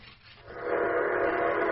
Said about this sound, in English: Hear those train whistles? I invited them to come here. Great city, Wichita!